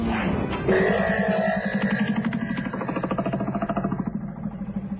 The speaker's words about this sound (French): j'aimerais savoir d'où te vient cette envie de faire un créneau avec ce mastodonte de 33 tonnes alors que tu as toute la place là-bas, là.